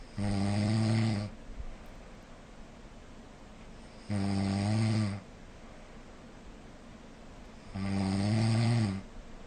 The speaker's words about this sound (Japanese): っていうね、いびきでございましたけども、こんな感じのがですね、2時間おきに30分ぐらい流れてます。